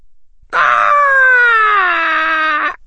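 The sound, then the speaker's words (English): A single loud, drawn-out screech from Fawkes the phoenix lasting about two seconds, a rich, tonal cry that sags slightly in pitch before cutting off, heard alone with no talking. “Screech.”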